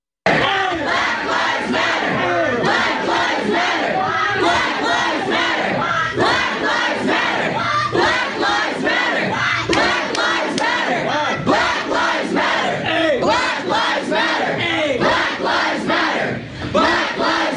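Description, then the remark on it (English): A large crowd screams and shouts at people in a study hall at Dartmouth College, many voices overlapping in a loud, unbroken roar of yelling and chanting that holds steady for the whole stretch. “a clip from Dartmouth College 2 days ago with people in the study hall being screamed at and flipped off because they're white.”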